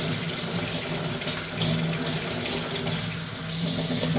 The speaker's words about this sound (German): Das heißt, ich tue die lediglich unter fließendem Wasser ein bisschen abbürsten oder abschrubben. Also ich tue nicht die Schale wegmachen.